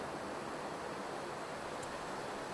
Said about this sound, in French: Les vagues qui meurent sur le sable te lèchent les pieds